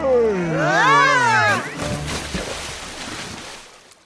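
A drawn-out, wavering vocal sound opens, then gives way to a steady wash of flowing water lapping around a boat drifting down the Mississippi River, moderately loud, fading slightly at the end.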